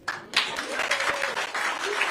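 A crowd at a President Biden campaign stop applauds steadily, a dense wash of clapping that swells right after the start and stays loud throughout, with a faint voice or cheer faintly audible beneath it.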